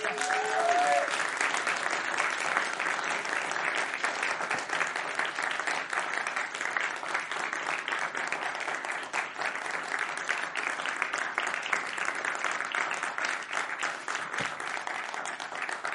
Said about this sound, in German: Aber ich möchte, dass ihr nicht an diesen Künstlern vorbeilauft, ohne sie zu sehen zu haben. Und ich möchte, dass ihr ihnen mit einem warmen Applaus einfach Danke sagt.